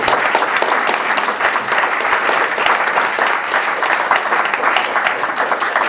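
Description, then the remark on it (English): Steady audience applause for the speakers, a dense, sustained patter of many hands clapping at a fairly loud level for several seconds without letting up. “Let's get a round of applause for the speakers.”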